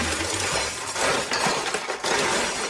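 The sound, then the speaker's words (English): Metal utensils clatter and jangle nonstop, a loud, dense rattle of forks and spoons being shaken around in a junk drawer, with no voices. “I think there's silverware in there. That is silverware.”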